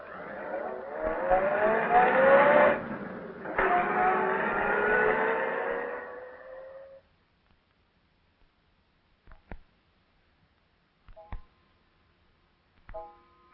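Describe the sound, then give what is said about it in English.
A car engine revs loudly and pulls away, driving a sick, feverish person home, its sound rising in pitch then fading out over several seconds, followed by quiet with a few faint clicks and knocks. “Get him into the car quickly. I'll drive you off and then get Dr.”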